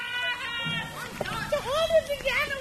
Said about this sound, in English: Recess at the Akwesasne Freedom School looks and sounds like it would any place else. Kids are running around shrieking, laughing, and playing some ball game only they understand.